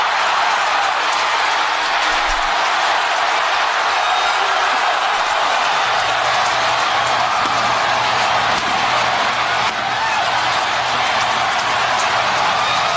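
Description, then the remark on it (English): A baseball stadium crowd in Milwaukee roars after a Brewers pinch-hit solo home run by Bowers that gives the Brewers a 1-0 lead, in a thick, sustained wash of cheering that stays loud and steady for the whole stretch, with no clear voices standing out. “Listen to that crowd.”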